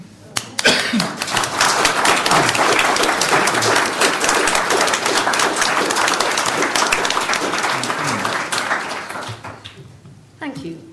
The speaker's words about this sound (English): I'm also really pleased to see that we have the company of several past presidents. Could I ask them please to all stand up so we could give you a round of applause?